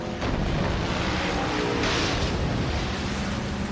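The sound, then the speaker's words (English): A powerful racing speedboat in a race at Eugene, Oregon, roars across open water at 165 miles an hour in a steady, loud wash of engine and spray, with a sharper surge of splashing noise midway through. The boat hits the wake of a competitor's boat. No voices are heard. “A boat hits the wake of its competitor going 165 miles an hour.”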